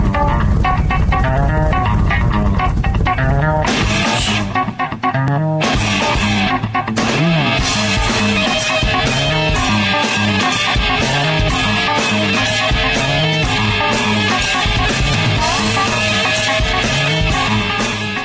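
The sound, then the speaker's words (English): A loud, dense rock track driven by a busy, punchy riff played entirely on bass guitar, with the only guitar in the background, drums pounding steadily throughout and a brief break near the middle before the full band kicks back in. “That's all bass, right? That's not a guitar and a bass. All that's bass, dude.”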